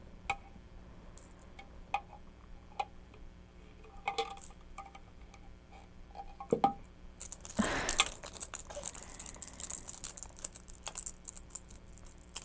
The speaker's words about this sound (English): Shake, shake, shake. Shake those keys.